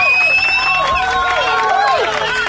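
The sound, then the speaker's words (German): Excited, frenzied cheering fills a studio after the winner of a prize draw is announced. Several voices whoop and shout at once with rising and falling pitch, loud and steady across the whole moment, with no quiet gaps. “Jawohl, das gibt hier einen frenetischen Jubel im Studio.”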